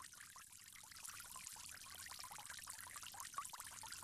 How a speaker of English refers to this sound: From there, we'll go along to the forearms, all the way up to just about the elbows, above the elbows. You want to make sure you're getting water on your forearms, starting with the right, moving along to the left.